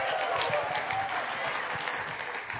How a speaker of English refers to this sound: So why don't you lean in and cheer and give her all the support that you possibly can while she preaches today. Give her a big hand as she comes to stage.